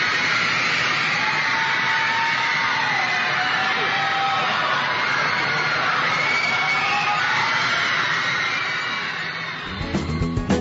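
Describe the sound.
An excited crowd on the Ed Sullivan show screams and cheers in a dense, high-pitched roar, with shrill wavering voices rising above it for about nine seconds before it suddenly cuts off.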